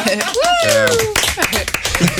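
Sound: applause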